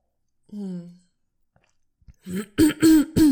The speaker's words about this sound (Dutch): Ik ga toch even een slokje van mijn thee doen.